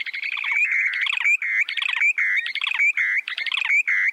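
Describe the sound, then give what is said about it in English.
Bubbling, trilling breeding calls of short-billed dowitchers in display flight, made as the birds glide earthward from about 150 feet up with beaks wide open, pour out in quick repeated phrases, each a burst of warbled notes with brief gaps between, loud, with no voices or other sounds. “You can hear their bubbling and trilling from up to a quarter mile away.”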